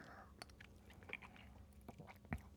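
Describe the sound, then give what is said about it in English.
Quiet mouth sounds of someone sipping a spiced drink that hits like whiskey: soft wet clicks and a brief slurp near the end, with low background murmur underneath. “I'm going to take a sip.”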